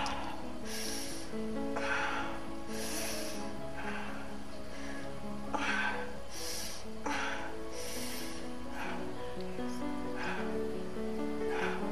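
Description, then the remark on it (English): A woman breathes heavily, a steady run of loud, breathy inhales and exhales with voiced, gasping edges, repeating roughly every second or two with no talking. “Listen to her breathing.”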